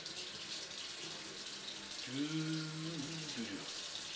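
Tap water runs steadily into a glass, a soft continuous hiss throughout, with a low ringing tone that swells briefly in the middle of the pour and then fades.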